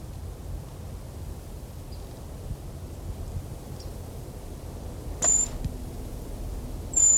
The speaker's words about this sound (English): This is a brown creeper. It's now 1 o'clock, 2nd November, making a high whistle-like sound.